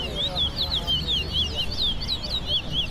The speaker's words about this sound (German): You have to look at that bird. Du musst den Vogel beobachten und genau darauf achten, wie oft er singt. Für jeden Pfiff mache ich einen Strich